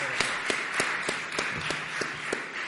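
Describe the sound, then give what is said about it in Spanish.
An audience applauds the inaugural speaker of the second section at the close of the first day of the 5th Congress on Prevention and Repression of Money Laundering: a dense wash of clapping with sharper claps punching through at a fairly even rhythm, moderately loud and without any talking. “son las 9:00 y entonces hay que dar por concluida esta primera jornada del 5º Congreso sobre Prevención y Represión del Blanqueo de Dinero, no sin antes darle un gran aplauso al ponente inaugural de la segunda sección.”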